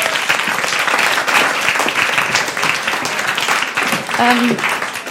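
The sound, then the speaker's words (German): Steady, dense applause from an audience, a welcoming round for a person called up to the front, fills the whole clip, many hands clapping at once in a broad crackling wash, with a brief voice rising over it near the end. “Ja, gerne einen wohlwollenden Applaus.”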